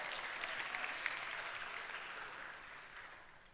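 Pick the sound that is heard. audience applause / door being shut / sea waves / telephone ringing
audience applause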